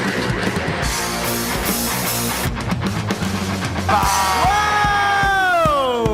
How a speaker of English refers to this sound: Who gave the ooh? This crowd is rowdy. We're in Wilmington, North Carolina at Wilmington Brewery Company.